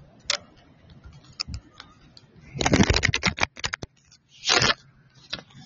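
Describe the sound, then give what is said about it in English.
A deck of cards being shuffled while ocean sounds play: scattered soft snaps, then a dense rapid ripple of crisp clicks, a short flurry of papery flicks, and a few final taps over a faint low background. “Let's shuffle the cards as you listen to the ocean, clearing our energy.”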